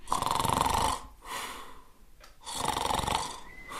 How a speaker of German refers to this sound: Jetzt, mit so viel Warndorfer Fleisch im Magen, legte er sich wieder ins Bett, schlief ein und fing ganz laut an zu schnarchen.